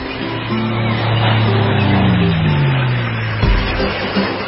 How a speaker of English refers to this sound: All righty, when you hear that music, you know it's time for the beach and boating forecast brought to you by the Freedom Boat Club.